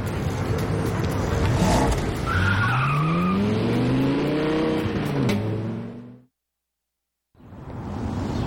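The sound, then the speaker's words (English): A sports car engine revs hard and pulls away as a couple drives off, its pitch climbing over a wash of tire and road noise, then cuts to a second of silence before more rumbling resumes. “She lowers her sunglasses and scoffs, then walks past him and kisses a man standing next to a sports car. He watches the couple zoom away.”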